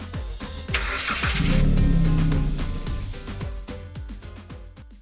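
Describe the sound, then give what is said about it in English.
A car engine cranks and turns over, then catches and revs up into a steady, loud rumble as the vehicle pulls away to drive past the Terrain Cemetery, with no talking. “Let us pass it by with the car.”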